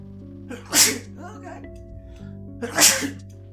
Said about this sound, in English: Sneezing.